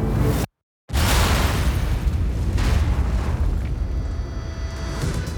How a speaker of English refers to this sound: Seconds later, 13 barrels filled with TNT exploded in a hidden tunnel beneath the road. The blast launched the convoy into the air and instantly killed the officers in the front car.